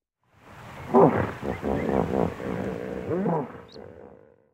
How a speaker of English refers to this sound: There were hippos in the water.